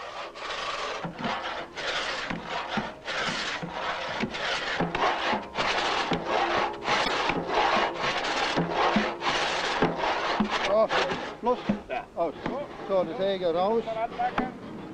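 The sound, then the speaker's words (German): A pit saw rasps through a propped-up log, one of several lengthwise cuts, with wooden wedges set in the log's end to hold the cuts open; steady, loud back-and-forth strokes, roughly two per second for about ten seconds, before the sawing breaks off and a voice briefly speaks. “Um die Spalten zur leichteren Führung der Dielsäge offen zu halten, wurden an der Stirnseite Holzkeile eingesetzt.”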